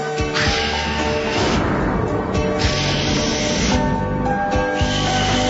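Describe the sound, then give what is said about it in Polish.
A group of voices imitates wind with long, breathy whooshing hisses that swell and fade in several waves, over a steady low tonal background. “Udajemy wiatr, nie boimy się, bo jest z nami Pan Jezus.”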